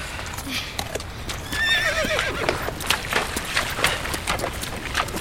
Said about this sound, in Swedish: När det närmade sig kväll stannade vi för att vila lite. Hästarna behövde dricka, så vi ledde ner dem till floden.